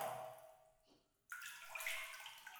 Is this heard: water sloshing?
yes